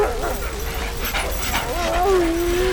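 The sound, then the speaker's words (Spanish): Wolves whimper, their thin, wavering whines rising and falling over a low rumble, with soft breathy bursts in between that could be sniffing, as they search for a trail and fail to pick up any scent. “Los lobos no huelen nada.”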